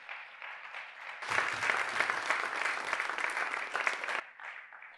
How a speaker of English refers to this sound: Let's give a round of applause, folks. That was great.